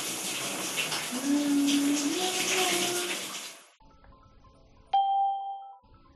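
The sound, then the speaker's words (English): A shower runs with a steady hiss of spraying water as a man showers, for several seconds, then cuts off abruptly, followed by a brief bright chime-like tone. “He's having a shower.”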